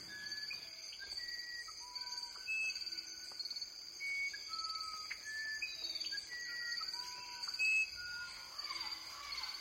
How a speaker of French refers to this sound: On entend un toucan à bec rouge, le chant des cigales, puis, dit Kraus, deux oiseaux très chantants, le troglodyte Ararda et l'ibigeau gris, accompagnés de perroquets, qui concluent l'enregistrement au lever du jour.